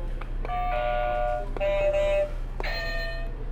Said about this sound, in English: Did you already pick your favorite buzzer? No, pick it out for us.